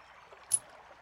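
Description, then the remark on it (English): Steady, soft rushing of river water flows throughout, with one brief brighter splash or burst near the middle. No one speaks. “Yes, across the river.”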